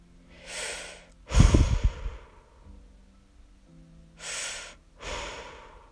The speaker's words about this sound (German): Dein Atem hört sich plötzlich an, als würdest du ganz schwer atmen. Das liegt an der Sauerstoffflasche, die an deinem Helm hängt.